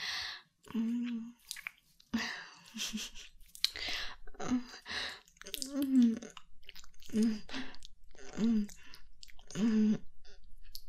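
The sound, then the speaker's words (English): Wet, smacking kisses repeat in an irregular series of about eight, each paired with a soft, low hum or murmur. Moderately loud, with no speech. “Here, let me kiss you some more.”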